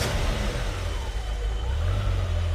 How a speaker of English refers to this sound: It had been there for 3 frozen years, through temperatures as low as minus 90 degrees Celsius. After turning the key a few times, the engine sprang to life.